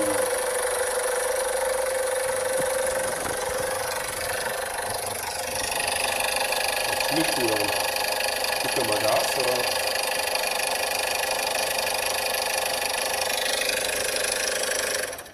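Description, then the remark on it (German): A Golf 6 1.2-litre petrol engine (63 kW, 2010–2012 model) runs steadily at idle, loud, with a constant whirring, ticking drone and a brief murmur of voices underneath partway through. “Golf 6, Benziner, 1,2 Liter, 63 kW.”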